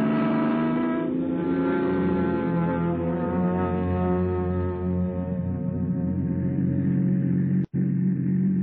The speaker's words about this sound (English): Vacation, here we come. Come on, car, let's go.